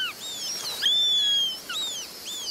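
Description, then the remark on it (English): A Eurasian sparrowhawk calling in a birdwatching video game set on a Mediterranean island: several thin, high whistled notes that slide up and down, overlapping in quick succession, clear with no voices present. “As you traverse the animated ecosystem, listen for the calls of over 50 birds, like the Eurasian sparrowhawk.”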